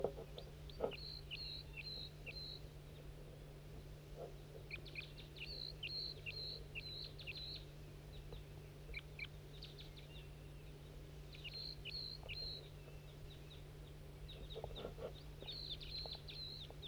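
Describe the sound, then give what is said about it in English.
Wild birds, around five of them, singing in a tree, with others joining a male that is singing there: repeated high, thin trilling phrases come in bursts over a steady low hum, with a few short chirps and clucks scattered between them. “Three wild birds joining that male that's singing in a tree.”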